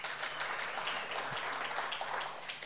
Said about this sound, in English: Big round of applause. Don't be shy. Don't be shy. You can clap.